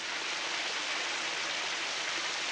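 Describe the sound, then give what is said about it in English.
A steady rush of water from a powerful showerhead streams down without pause onto a woman's face as she stands in a bathtub behind a plastic shower curtain, a dense hissing spray that stays even and loud throughout. “She turns the water on and lets the showerhead's powerful stream rain on her face.”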